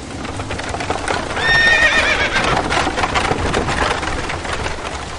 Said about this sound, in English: Just then, a horse and a carriage came roaring down the lane.